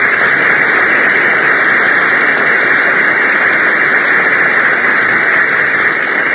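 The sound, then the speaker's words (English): A studio audience applauding steadily and loudly to welcome a performer's arrival, a dense crackling wash of many hands clapping that holds without letup for several seconds, with no one talking over it. “Well, did you hear that applause”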